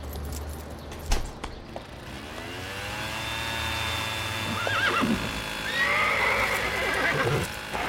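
A horse named Kleopatra whinnies loudly in a front garden, its high wavering neighs rising and falling over the steady drone of a leaf blower a gardener switched on in the neighbouring garden, with a few sharp hoof knocks at the start as it shies and bolts away.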